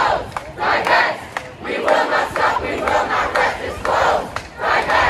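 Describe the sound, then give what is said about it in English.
A large crowd of protesters at USC shouts and roars in rough unison as it rushes campus security, with loud surging bursts of yelling and chanting rising and falling over several seconds, dense with no single clear voice. “And then the crowd sort of began rushing campus security.”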